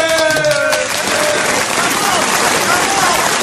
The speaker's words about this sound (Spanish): Tenemos con nosotros un aplauso grande